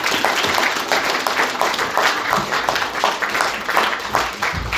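A crowd applauds steadily, many hands clapping in a dense, continuous patter that holds at an even, fairly loud level throughout without any voices.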